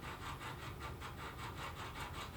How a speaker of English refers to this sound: And it sounds like somebody is sawing away at our window here. We're at the MGM. Must just be some sort of air vent action, some sort of, I don't even know, but it sounds like there is a man with a saw outside our room.